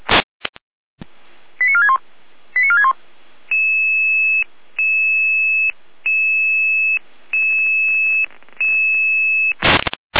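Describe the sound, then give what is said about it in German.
A dispatch alarm tone sequence from the Saalfeld-Rudolstadt dispatch in Germany: a few rapid descending chirps, then a steady pattern of long, evenly spaced high beeps, repeating about six times, loud and clear with no talking. “Ihr Alarm.”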